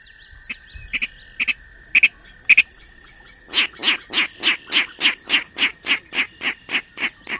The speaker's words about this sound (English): Today we're standing on a boardwalk overlooking a marsh. These clicks and oinks tell us a Virginia rail is close by. But rails are rarely seen.